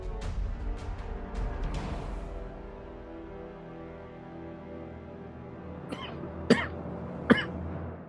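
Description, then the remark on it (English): A few soft, muffled coughs come near the end, short sharp bursts spaced about a second apart, after a stretch of low rumbling background noise and faint clatter. “The quiet DMV cough.”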